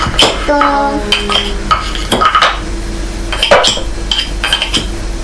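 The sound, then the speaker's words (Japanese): A knife chops on a cutting board in quick, uneven bursts of sharp taps, fairly loud, with a few ringing clinks of dishes or utensils mixed in. “トント ントント ントントントント ントントン。 た。 切れた？”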